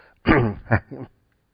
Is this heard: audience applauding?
no